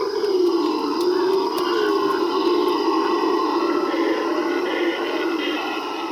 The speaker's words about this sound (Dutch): Gelukkig is het niet heel moeilijk om deze herrieschoppers te vinden. Want hun luide gebrul is namelijk kilometers verderop nog steeds te horen. Let op, luister maar.